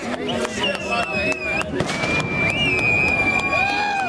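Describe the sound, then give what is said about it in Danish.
A dense outdoor crowd at a demonstration cheers and shouts as an effigy doll burns. Shrill whistles rise and slide over the din, and sharp pops or bangs crack through now and then. “Folk jubler, da dukken brænder.”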